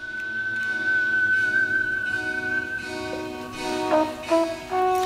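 A whistled melody floats over orchestral film music from a 1972 French police film, opening with one long, clear held note before shorter notes step up and down against the swelling accompaniment.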